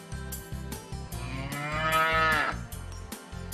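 cow mooing

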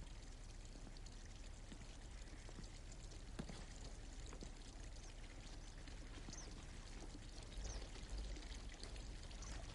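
water pouring

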